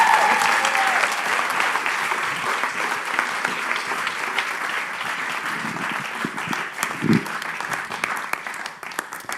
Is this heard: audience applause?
yes